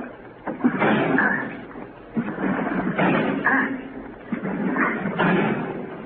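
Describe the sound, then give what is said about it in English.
In a radio drama of The Shadow, someone trapped in a vault rams its door three times trying to break it down, each heavy thud followed by a loud rattling, crashing clatter, with short pauses between blows. “I'm going to try to break down the door.”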